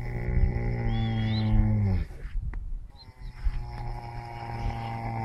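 Heavy, rumbling snoring: a long, loud, buzzing snore with a deep rasp, a short gap as the breath turns, then another drawn-out, rougher snore. No one speaks.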